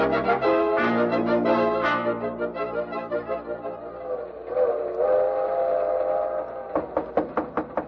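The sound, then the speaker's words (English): A train runs along the rails, its loud whistle-like tones sounding at first, then fading into a steady rumble with rhythmic clacking of wheels near the end. “Oh, Smoke, how did you get on this train?”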